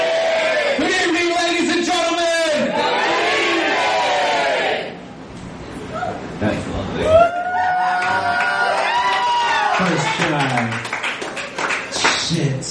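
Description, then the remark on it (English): A large audience shouts "Good evening!" and cheers loudly in unison in reply to a host, a sustained roar of many voices that dips briefly and then swells again with scattered yells and claps. “So when I say good evening, you may raise the roof and you say what?”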